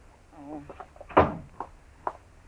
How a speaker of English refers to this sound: Shut the door, Chester. It's fly time.